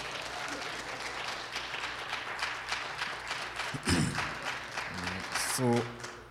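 An audience claps steadily, a dense wash of many hands with no clear rhythm, joined near the end by brief vocal calls and a rising voice over the applause.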